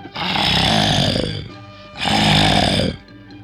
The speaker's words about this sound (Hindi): पीलू बाघ गुर्राया